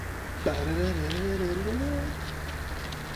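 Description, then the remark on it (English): A dove-like cooing ringtone used as an alarm clock plays: a soft, low, wavering coo lasting about a second and a half over a steady background hum, then it stops. “I have that ringtone as my alarm clock.”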